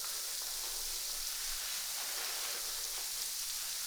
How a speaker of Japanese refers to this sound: 君の髪の毛の中でちっちゃな泡がたくさん弾けてるんだよ。